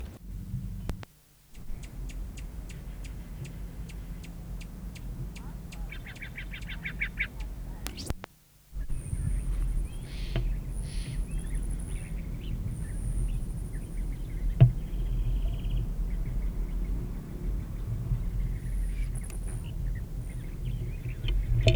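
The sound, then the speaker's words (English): A male rufous hummingbird forages at Nicotiana flowers, with brief high metallic wing trills and short chip notes over a steady low outdoor rumble and occasional clicks. “Male Rufus foraging on Nicotiana.”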